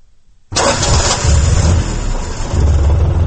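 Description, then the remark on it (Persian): The engine of an old Soviet car, given by Soviet leader Brezhnev to a village woman and still serving people as a taxi, cranks and catches after a brief near-silence, then settles into a loud, steady, rumbling idle with a throbbing low pulse, with no voices. “ماشینی سبوگربه که 3 سال قبل از جانب برژنیو رئیس جمهوری شوروی سابق به یک زنی دهاتی در ناحیه واسه توفه شده بود تا هنوز در خدمت مردم قرار دارد”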